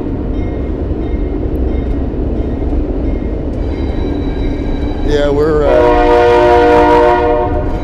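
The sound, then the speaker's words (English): A train rumbles heavily, steadily and loudly across a steel bridge, and partway through its horn blares a long, loud, wavering blast. A voice briefly speaks near the start. “A train is just rolling across the steel bridge.”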